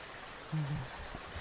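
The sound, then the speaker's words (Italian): Steady heavy rain hisses throughout as a dense, even wash of noise, with a brief low murmur rising briefly under it midway. “Mamma mia, se piove!”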